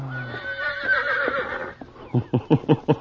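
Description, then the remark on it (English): A horse neighs loudly, a long wavering whinny that breaks into a quick series of four or five snorting, pulsing bursts at the end, with no talking. “For why you look at Pancho, Senor Horse?”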